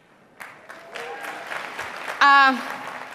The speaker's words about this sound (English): They're all applauding her. You know, welcome guest at CPAC.